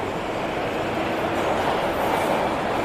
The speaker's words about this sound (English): The train leaves the station.